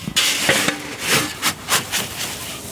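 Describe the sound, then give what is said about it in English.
Hundreds of chickens in a coop at Back 40 Farms in Nampa, Idaho, at 4 p.m. feeding time, rushing in and flying down from the rafters: a busy, rustling commotion of scratchy bursts and flutters, some faint low clucking underneath, fairly loud and irregular with no one talking. “it is 4 p.m., time to feed the chickens”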